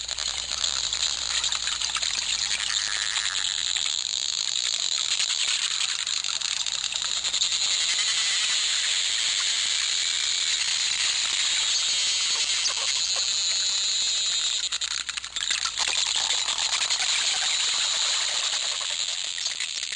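Bottlenose dolphins recorded underwater: a dense, steady crackle of rapid clicks over a bright watery hiss, with faint high whistles woven through. No one speaks.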